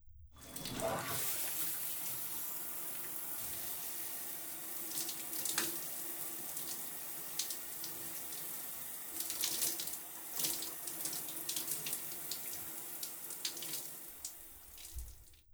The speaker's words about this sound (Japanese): では、早速始めたいところですが、まずはシャワーを浴びてきてもらえますか？その間に準備をしますので。